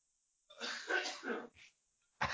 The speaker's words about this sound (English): I got a cough. Hold on.